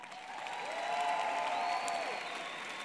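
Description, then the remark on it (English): A crowd at a Bernie Sanders campaign event in Arizona applauds the campaign workers steadily. The clapping is a dense wash that holds at an even level throughout, with a faint whistle or cheer rising briefly in the middle. “Let's give it a round of applause for you guys.”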